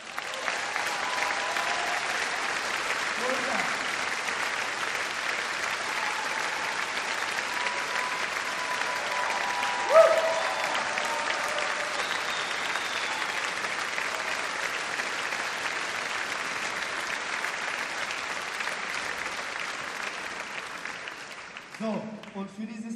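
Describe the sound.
Sustained audience applause, a dense wash of clapping that holds steady for about twenty seconds before thinning slightly, with faint cheers and crowd voices mixed in.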